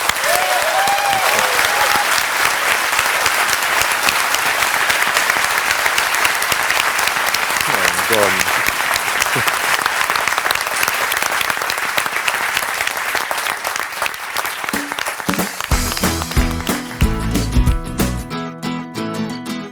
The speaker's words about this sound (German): Ja, wenn keine Fragen mehr da sind, dann beschließe ich jetzt ganz offiziell nochmal die Sitzung, freue mich über die rege Diskussion und nochmal ganz herzlichen Dank und jetzt mal großen Applaus für euch.